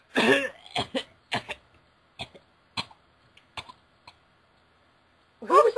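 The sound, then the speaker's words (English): A person fakes a string of exaggerated coughs, about eight short, sharp bursts that thin out and grow softer, followed by a brief vocal sound at the end. “That's some very fake coughing you have there.”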